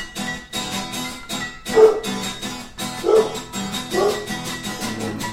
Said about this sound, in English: Hark? That dog's bite is worse than his bark. And that dog bark is fierce. Listen as the shock of the sound waves pierce. That dog's fierce.